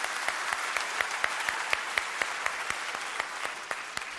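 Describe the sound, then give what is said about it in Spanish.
An audience at the Premios Gardel awards ceremony claps steadily for the Gardel de Oro, a dense wash of many hands with sharp individual claps popping out at a quick, irregular rhythm, fairly loud and with no voices on top. “El Gardel de Oro se merece el aplauso.”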